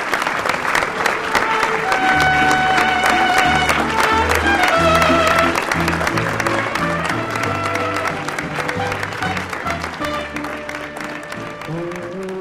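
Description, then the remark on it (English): At a memorial service for Esther Chavez Cano, a crowd gives a minute of steady, dense applause in place of a minute of silence, with mariachi music, bright trumpet and string melody over a bass line, playing underneath the clapping. “Instead of the traditional minute of silence, Chavez Cano received a minute of applause and mariachis.”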